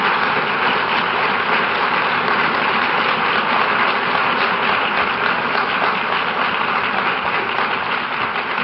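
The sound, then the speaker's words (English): A large crowd of public health professionals claps continuously, a dense, steady wash of applause holding at an even, fairly loud level for the whole stretch, with no voices cutting through. “You don't have to applaud at the end.”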